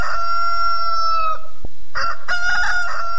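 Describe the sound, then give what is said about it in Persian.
A rooster crows loudly, a long drawn-out call that breaks off briefly with a sharp click, then resumes in a second burst of crowing. “کسی اگر نداشتم دمار روزه یک خراس می خرید، یک کنیم بجه دو بجه خراس بانگ می داد،”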